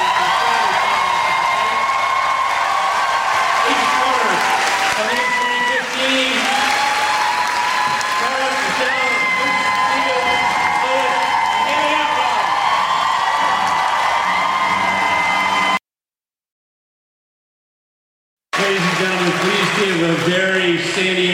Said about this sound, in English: What I'd like you to do is give a great big round of applause.